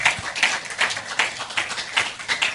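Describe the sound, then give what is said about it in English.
A steady run of about seven claps at an even rhythm, moderately loud, like an audience clapping together in time. No one speaks over it. “Let's clap.”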